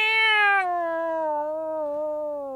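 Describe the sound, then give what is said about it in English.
A person imitates a cat's meow in one long, drawn-out, clear tonal cry that starts bright and slowly slides lower, sounding fairly loud with no other talk. “I feel compelled to meow.”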